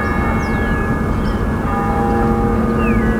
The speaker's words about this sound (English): And he loved the idea of bringing back to life the chimes in the old MetLife bell tower, which had been silent for 7 years.